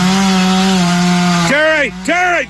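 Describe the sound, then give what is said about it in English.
A chainsaw cuts down a tree next to a house in Arkansas, its engine holding a loud, steady buzzing drone before revving up and down twice in quick, rising-and-falling surges. “I'm going to cut this thing down.”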